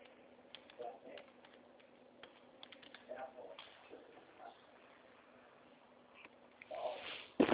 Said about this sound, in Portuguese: O senhor conseguiu abrir o aplicativo? Eu tô aqui digitando o CPF aqui.